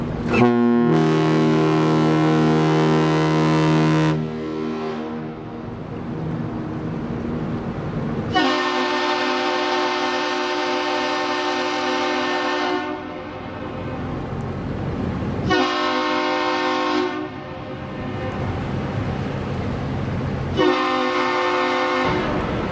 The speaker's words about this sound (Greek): Στο τέλος, βάλαμε να χτυπήσει η σιρήνα του βαποριού τρεις μεγάλες σφυριξιές και μια κοντή.